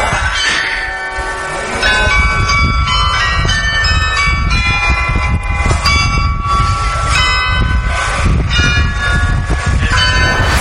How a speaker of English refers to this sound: Oh, that's why you go ka-ching every hour. That's the one, my friend. Thanks to those Dutch clocks.